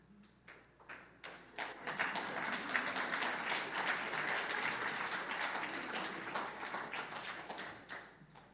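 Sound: audience clapping hands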